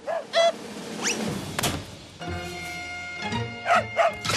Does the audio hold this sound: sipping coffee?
no